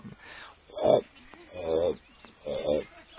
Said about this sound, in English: and then it turns something and it turns two other wheels, and there they put the sugar cane in and it gets pressed, and then it makes this sound. This sound should water your tongue with saliva, but it doesn't.